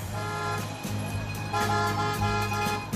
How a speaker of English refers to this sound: Later, on a busy street in Tijuana.